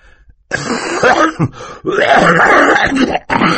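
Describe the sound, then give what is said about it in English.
Mr. Poe coughs into his handkerchief, a few loud, raspy bursts with throat clearing, in three uneven fits separated by short pauses, with no talking. “Mr. Poe said, coughing into his handkerchief.”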